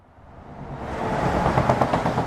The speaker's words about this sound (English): Trucks headed to and from the port of Calais pass under this bridge at the southern end of the jungle. It's lined with plastic mesh, topped with barbed wire to keep migrants off the highway.